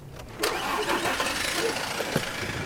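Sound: bus engine starting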